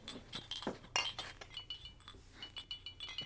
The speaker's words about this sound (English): Spiramycin... These are antibiotics. Shit. Load up. Here, put this cloth in between and don't break the glass jars. I'm being careful.